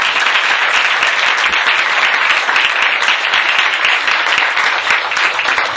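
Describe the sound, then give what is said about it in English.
Sustained applause from a sizable crowd for a speaker at a Hare Krishna gathering, dense and steady for several seconds, with countless overlapping hand claps forming a continuous loud wash of sound. “Thank you, Maharaj, and please give a warm applause to Maharaj again. Roll of applause, and thank you.”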